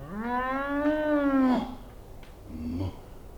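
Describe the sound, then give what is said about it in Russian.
A cow peeking out through a room door lets out one long, loud moo, then gives a shorter, quieter low call after a brief pause. No one speaks. “дверь комнаты приоткрылась, и оттуда выглянула корова. Что это?”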